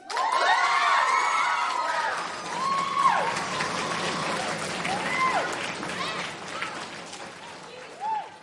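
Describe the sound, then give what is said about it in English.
A crowd of children cheers and applauds loudly for a child who has just performed a rhyme, high excited shouts, chants and whoops rising over steady clapping, with a few voices swooping up and down as the noise carries on throughout. “Can we give a big round of applause and maybe some chants, some whoops, some what?”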